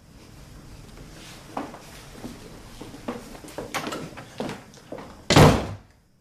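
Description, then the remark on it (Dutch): Footsteps and small knocks move about before a loud door slams shut near the end, a single heavy bang that cuts off into quiet, as a man walks away and shuts himself in his study. “… wandelt verder weg en sluit zich op in zijn bureau”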